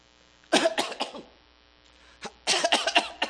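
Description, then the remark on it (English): A harsh, hacking cough comes in two close bursts, each a quick cluster of rough, raspy hacks, loud, with a short quiet gap between them and no talking. “It's like someone who has a, excuse me, Judy, a hacking cough”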